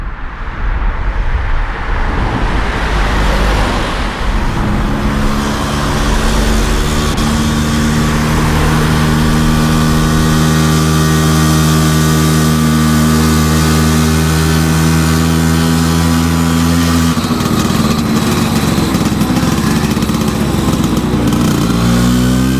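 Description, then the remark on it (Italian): Loud, continuous engine noise of traffic on a big, busy road drones throughout, its steady humming tones slowly shifting pitch before a rising rev toward the end. No one speaks. “Ich habe genommen diese Geräusche, weil ich neben einer großen Straße gewohnt habe.”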